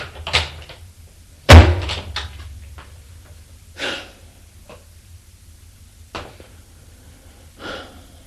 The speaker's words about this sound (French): Après avoir dit ça, il sort de la pièce en claquant la porte.